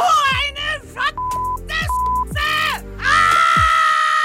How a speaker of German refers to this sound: Ja, was bringt dich zum Schreien? Raus damit. Das ist unser Thema heute am Tag der Frustrationsschreie.